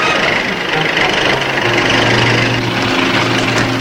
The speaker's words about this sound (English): Look, here comes a car. He's going the wrong way. Back to town.